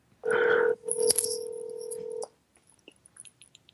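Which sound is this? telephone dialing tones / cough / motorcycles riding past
telephone dialing tones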